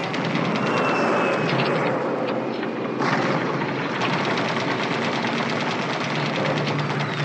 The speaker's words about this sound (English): We gotta pull out of here. The engine won't catch, soldier. Gee, caught with a truck in a bombardment like this. There's no use. It's not gonna go. What do we do? These shells will catch us.